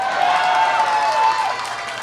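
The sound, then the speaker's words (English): A dense wash of audience noise with applause running steadily throughout after a spun wheel lands on electric scooters. The applause is fairly loud and continuous, easing off slightly toward the end, with a faint murmur of voices mixed in. “I saw people who said boo now clapping.”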